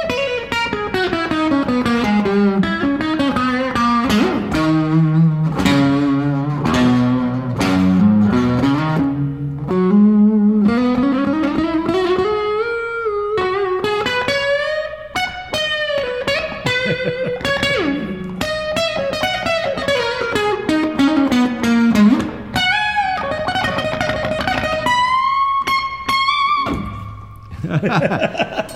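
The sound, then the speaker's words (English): A handcrafted Canadian cutaway electric guitar with a light overdrive plays a continuous, fairly loud melodic line of bending, sliding notes and sustained tones, with no one speaking over it. “But what I like how you have it set up is it's just got a little bit of distortion in it, so it gets a kind of a nice bloom to it, and it you get a nice cool sound.”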